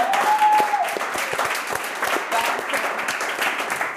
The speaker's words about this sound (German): Köln 400, stark. Oh mein Gott. Applaus für Köln! Nur für heute!